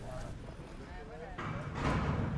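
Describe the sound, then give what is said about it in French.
A heavy enclosure door of the Poor Clares convent in Poligny, in the Jura foothills, creaks open with a few short squeaky whines, then clunks and rattles more loudly as it swings and shuts, over a steady low rumble. “Porte de clôture que vous entendez.”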